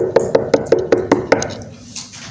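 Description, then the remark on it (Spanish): A quick, even series of about seven knocks, like knuckles rapping on a door, followed by a short quiet tail with a faint rustle. “Como Apocalipsis 3:20 dice, estoy en la puerta tocando.”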